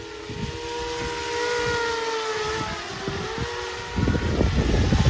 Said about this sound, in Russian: Дрон возвращается! Ложись!